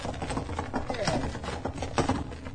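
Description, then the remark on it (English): Hooves clop unevenly on a hard road as a horse-drawn carriage slows to a halt beside a man walking on the road, with wheels and harness rattling and voices faintly mixed in. “Pull up beside him, driver. Up! Hold up! Whoa!”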